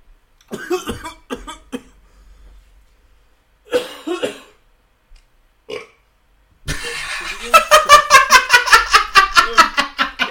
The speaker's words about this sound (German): Oh, wie gut, Alter. Erst so ein Hustenanfall, ich denke, der stirbt auf einmal. Burp. Großartig.